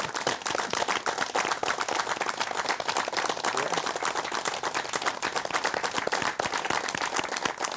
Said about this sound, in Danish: Men allerførst, så skal du lige have en rigtig stor hånd fra publikum, inden du går op og slutter den her fine udgave af Talkshow Vest, mine damer og herrer.